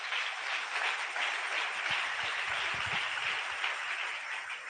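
An audience claps unto the Lord at the speaker's request during a church service, a dense, steady burst of applause that holds at an even level for several seconds, with no voices over it.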